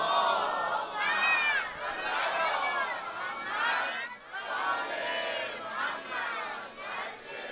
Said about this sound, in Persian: ناز قدمای آقامون یه صلوات بلند فرست.